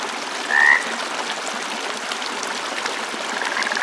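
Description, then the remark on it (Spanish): Frogs croak softly over a steady trickling stream, with one brief, clearer call near the start and a continuous chorus-like texture throughout; no voices. “El suave croar de las ranas nos llama.”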